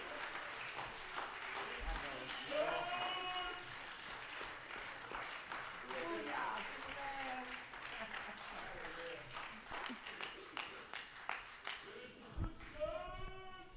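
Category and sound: crowd, audience applauding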